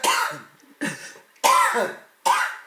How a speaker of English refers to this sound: Got a cough to get off, bro.